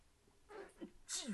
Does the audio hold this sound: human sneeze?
yes